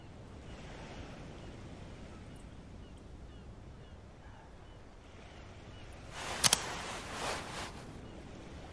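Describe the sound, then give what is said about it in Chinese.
Steady roar of strong sea wind over breaking waves at a lighthouse overlooking a bay, continuous and fairly loud, with a stronger gust and a couple of sharp buffeting pops swelling near the end. “这儿的海风更强烈了，我们从这里能看到整个海湾。”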